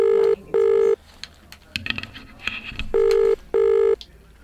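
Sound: telephone call ringing out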